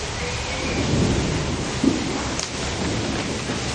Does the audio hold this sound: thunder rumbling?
yes